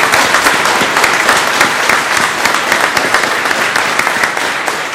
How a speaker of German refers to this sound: Genau, die Konfirmanden kriegen als Erinnerung ihren Kompass und auch ein Holzkreuz geschenkt von unseren Teamern. Und das ist auch mal ein Applaus wert.